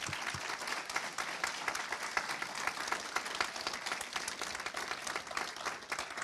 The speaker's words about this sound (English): And so we just want to honor those people who have been here with the church for 10 years. So let's go ahead and give them a round of applause.